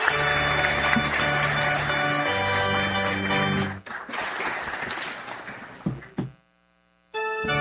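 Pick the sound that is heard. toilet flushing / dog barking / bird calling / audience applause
audience applause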